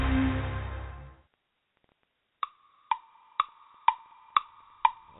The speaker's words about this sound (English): Oh, draft day comes, but once a year, each tick of the clock, the time draws near when there'll be hope for every team in the National Football League.